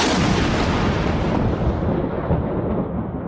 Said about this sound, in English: A bolt crashed down onto the ground in the stadium.